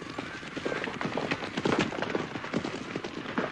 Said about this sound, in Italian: La ragazzina non disse nemmeno una parola mentre la fila di cavalli trottava attraverso la campagna.